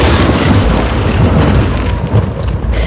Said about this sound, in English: Chloe, are you making those storm clouds and lightning? No, that's all her.